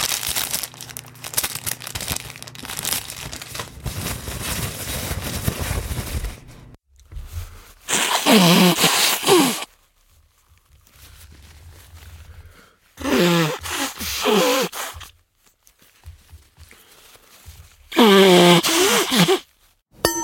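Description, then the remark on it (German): A person mimics a bird call with loud sneezes and wet snorts, presented as the courtship call of a made-up bird, the 'Histaminkehlchen' (Erythacus allergicus): three bursts separated by pauses, with wavering squeaky tones, after a long stretch of low rustling noise. “Der Balzruf des Histaminkehlchens ähnelt dem Rotzkehlchen weitestgehend.”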